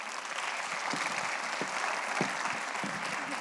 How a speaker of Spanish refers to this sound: Y el día de hoy la tenemos aquí presente y yo te quiero invitar a que le des un fuerte aplauso para poder recibirla.